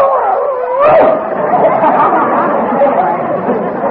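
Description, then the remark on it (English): A dog, Peanut, barks and yelps loudly and almost continuously, its excited calls running together with a brief howl-like rise near the start. “Davis, we can't afford to feed this dog.”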